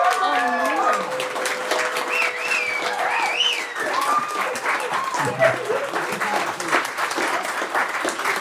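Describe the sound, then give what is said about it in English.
An audience claps steadily and loudly for several seconds to vote for the segment "Pick the Pedo" as the better segment, a dense, crackling wash of many hands, with whoops and shouted cheers rising and falling over the applause. “If you think Pick the Pedo was a better segment, clap your hands.”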